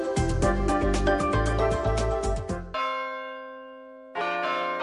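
Church bells ring loudly in a dense, overlapping peal, then one bell's tone hangs and slowly fades before another strike sounds near the end. No voices.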